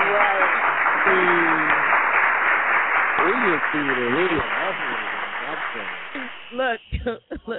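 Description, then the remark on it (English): A dense round of applause rolls steadily for several seconds while voices talk over it, then fades out as speech carries on alone. “That's a round of applause for that shit right there, yo.”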